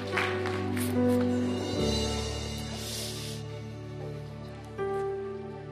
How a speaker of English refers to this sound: Hey, it's raining.